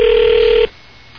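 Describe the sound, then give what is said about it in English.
A single steady ringback tone on an outgoing phone call, a loud mid-pitched electronic hum lasting just over half a second before cutting off to faint line hiss. No one speaks. “Let me call Alan.”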